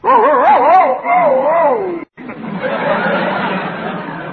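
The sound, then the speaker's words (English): A man's voice imitates a male dog answering with a bark, in wavering, yelping cries, then a brief pause followed by rougher, growly vocal noises. “The boy dog answered like this.”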